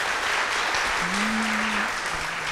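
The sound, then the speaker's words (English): Steady, continuous applause from a small audience for a Raspberry Pi decorated with sparkly leaves and glitter fills the space, a dense wash of clapping at moderate loudness, with a brief low tone sounding faintly beneath it. “Very applause.”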